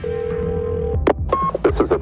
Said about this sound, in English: You step into a phone booth and dial.